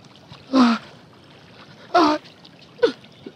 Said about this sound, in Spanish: Midas se arrodilló junto a ella y hundió las manos en el agua del pequeño lago